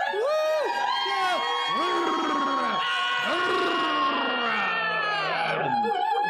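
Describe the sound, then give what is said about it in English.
A large arena crowd roars and cheers wildly, many voices shouting and whooping together in a dense, continuous wall of sound that stays loud throughout. “The crowd goes wild at your arrival.”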